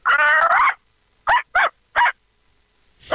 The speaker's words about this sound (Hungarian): Kicsi, idegesítő, és ilyen apró terve. Ez egy kis kutya, azt tudom.